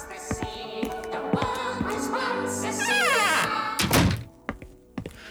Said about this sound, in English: Hang on. I'll close the door. Can't concentrate with those bloody elves.